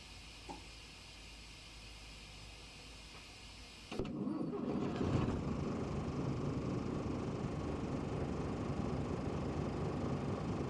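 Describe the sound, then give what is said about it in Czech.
A faint steady hum gives way at about four seconds to a bus engine being started, cranking into life, then settling into a loud, continuous low rumbling idle as throttle is added, heard from the front seat behind the driver. “Vlastně slyšíte motor nalevo a mě napravo, protože já jsem na pozici 2.”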